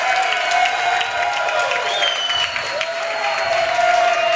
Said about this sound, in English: Well, that's pretty awesome. You haven't had that big a cheer since you won the Ivy for Brown as a quarterback.